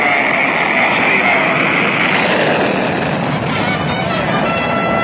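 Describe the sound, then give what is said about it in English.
A loud, continuous rocket-engine roar rumbles steadily through the whole stretch, broad and dense, as the Apollo 10 rocket lifts off at launch on its way to the moon, with no break or change in intensity. “There's the fire. Engines running. Launch commits. There it goes. It's moving.”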